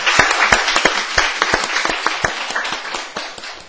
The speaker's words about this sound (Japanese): 拍手でお迎えしたいと思います。